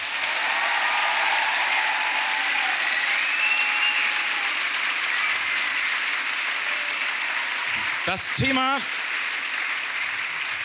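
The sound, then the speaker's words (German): Sustained applause from an audience at the POT Talkshow, welcoming the evening's guests, steady and fairly loud, with a few whoops and whistles cutting through near the end. “Die dürft ihr gerne mal mit einem Applaus begrüßen.”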